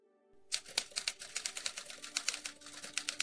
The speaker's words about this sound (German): Die 199 Seiten des Buches tippt Michaelis auf einer Schreibmaschine.